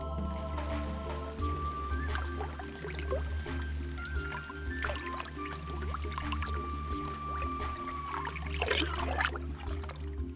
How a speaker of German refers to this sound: Von Rauschen des Wasserfalles fängt es an, auf deiner Haut zu kitzeln.